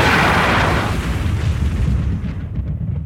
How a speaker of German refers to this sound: Seid leise da draußen, ihr dummen Donnergrummel. Und haut bloß ab, ihr blöden Blitz.